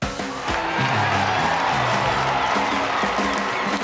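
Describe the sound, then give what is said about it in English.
A crowd applauds and cheers in a steady, loud roar of clapping that lasts the whole time, with scattered whoops and raised voices rising above it. “I am humbled by your applause, and you are honored to be in the presence of the magnificent Juan.”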